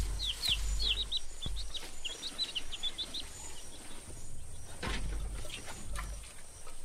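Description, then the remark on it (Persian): High, thin chirps repeat in quick clusters over the first few seconds, like small chicks peeping, set against a steady low background hum and a couple of soft thumps. “در ازاش این جوجه ها رو میدم بهتون.”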